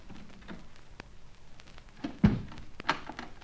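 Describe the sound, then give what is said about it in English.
A door thuds shut with a solid thunk, followed a moment later by a sharp metallic click as the door is locked, over a quiet background. “Door locked in the lot.”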